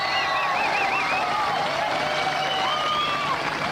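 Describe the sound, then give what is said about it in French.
An audience applauds steadily and loudly for a few seconds, a dense continuous wash of clapping with high whistles and cheering voices rising and falling through it. “Maintenant d'applaudir, oui, c'est oui, de hein, voilà.”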